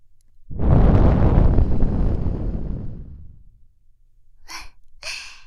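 A long, airy breath blown softly into the ear, a breathy rush with a low rumble that slowly fades over a few seconds, followed by two short, quick intakes of breath.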